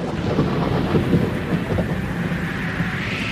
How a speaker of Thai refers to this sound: ประมาณตีสี่เช้ามืดของวันใหม่ขณะที่ทุกคนกำลังหลับอย่างสนิททั้งลมและพายุก็พัดผ่านเข้ามาอย่างกระทันหัน